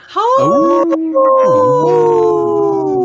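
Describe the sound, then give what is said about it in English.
A person's voice imitates a wolf howl, a loud, sustained wavering call lasting about three seconds with a brief break near the start, with no speech. “I think that's the best call I've ever heard you do.”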